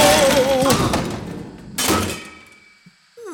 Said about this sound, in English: What? An explosion? Exploding anchovies.